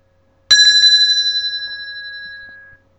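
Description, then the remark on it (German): A bright bell rings out with a quick trilling rattle, then its metallic tone gradually fades away over a couple of seconds, clear with no voices. “Wer klingelt da?”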